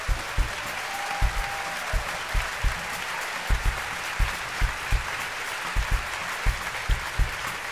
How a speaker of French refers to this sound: Alors, si vous voulez voyager avec nous, il faut vraiment applaudir l'Orchestre Lamoureux qui a accepté le voyage.